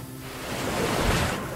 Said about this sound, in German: Und wie die Wellen an die Felsen klatschen.